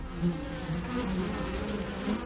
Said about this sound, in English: You recognise that noise, right? As the days grow colder and nature seems to slow down, have you ever wondered what happens to the bees? These tiny yet essential creatures, so often buzzing through our gardens in spring and summer